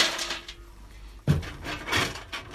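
A sharp metallic strike rings out after a stretch of faint hiss, followed by another clanking blow and scraping noise, as 70-year-old village blacksmith Dave Walker hammers metal in his daughter's front yard, opposite the pub in Cargo, central west New South Wales.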